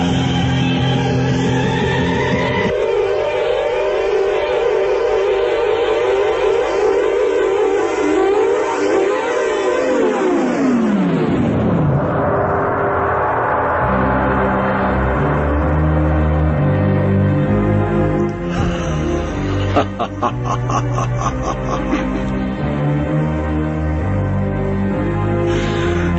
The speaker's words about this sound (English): This would be a jingle done on Caroline many, many moons ago